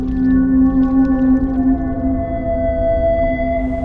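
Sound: whale song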